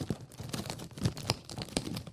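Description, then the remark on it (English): Quiet plastic wrapper crinkling and rustling in quick, irregular bursts, with a few sharper crackles, as a bag of cookies is handled by someone eating from it. No one speaks. “Well, he's eating my cookies.”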